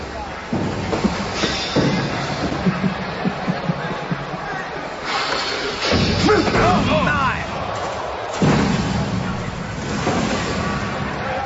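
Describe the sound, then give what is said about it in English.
In a wrestling attack in Chris Jericho's locker room, the Wyatt family (Bray Wyatt, Harper and Rowan) slam Jericho into metal lockers with a Sister Abigail, giving a few loud, crashing thuds amid a rough, noisy 3-on-1 scuffle with broad rumbling commotion throughout. “That thud you heard was the sister Abigail into the lockers.”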